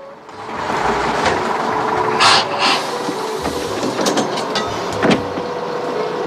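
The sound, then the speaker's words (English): A bus to Phoenix idles and rumbles as it pulls up at a stop, with sharp bursts of air hissing partway through and a few squeaks and clanks as it comes to a halt; no one speaks. “The bus to Phoenix pulls up at the stop.”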